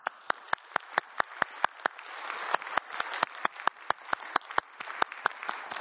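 A crowd applauds steadily for several seconds, a dense wash of clapping with a few sharp individual claps standing out at a quick, regular pace. No voices are heard.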